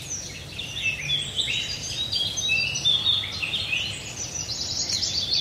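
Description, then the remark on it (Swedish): Several birds sing continuously with high, overlapping warbles and chirps over a steady low rumble of background noise, with no voices, recorded during a night birdsong outing. “Under fågelsångsnatten hörde vi vacker sång.”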